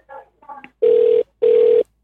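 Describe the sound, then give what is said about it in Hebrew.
A phone's ringback tone on a call to Knesset member Hilik Bar: two loud, steady beeps of equal length separated by a short pause, preceded by a few brief murmured voice sounds. “הנה, מצלצל, הכל בסדר.”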